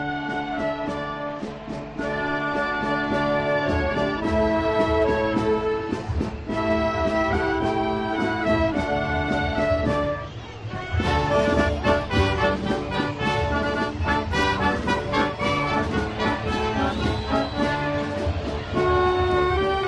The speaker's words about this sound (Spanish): comienza a sonar ahora sí la banda municipal, campana sobre campana. Vamos a escucharlo.